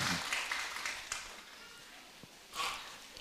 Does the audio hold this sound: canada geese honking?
no